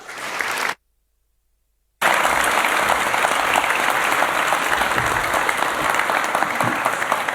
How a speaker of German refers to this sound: Das heißt, begrüßt bitte mit mir mit einem ganz, ganz großen Applaus